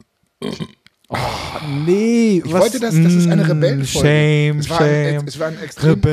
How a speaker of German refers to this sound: Ich bin Rebell und muss mir jetzt hier trinken und rülpsen. Das erste Mal, dass ich öffentlich gerülpst habe.